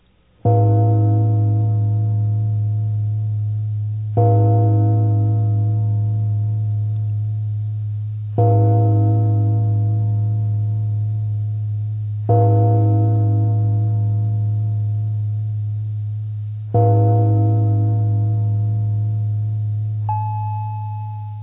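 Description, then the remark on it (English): A synthesized chime strikes five times at a slow, even pace, each tone bright and metallic with a strong low hum beneath, ringing out in a long resonant decay before the next strike. “The ADSR release control is very important, and in most cases should be left at maximum setting to simulate the chime's naturally long resonant decay.”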